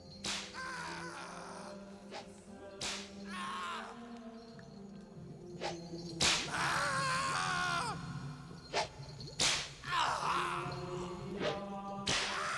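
Sharp whip cracks land every few seconds, each followed by pained groans and strained cries from a voice, loud, with no one speaking.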